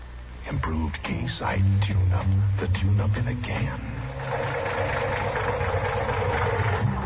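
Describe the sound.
A worn car engine with a sticking valve idles with a steady, low, slightly rough rumble that carries through the whole stretch, with indistinct talking over it during the first few seconds.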